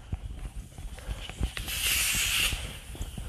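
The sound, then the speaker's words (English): A loud, steady hiss of gas escaping from a leaking pipe swells up for about a second, set against scattered low thumps and faint background rumble. “And it sounds like one of them's leaking out, like it's like natural gas or something.”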